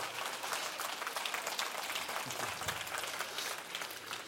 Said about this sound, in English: Would you give him a big hand clap for moving here?